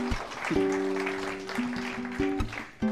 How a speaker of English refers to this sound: Let me tell you that our students today were impacted. Give them a round of applause because a lot of students came up.